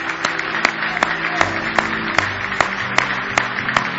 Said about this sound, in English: Let's stand to our feet tonight. Give the Lord a good hand clap of praise if you love him tonight.